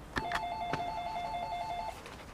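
household object, doorbell ringing

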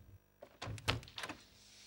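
household object, apartment door opening

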